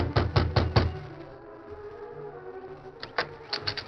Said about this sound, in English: Perry knocked on the door of the cabin.